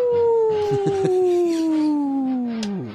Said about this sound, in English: Woof, woof, woof. Woof, yeah. Woof, woof.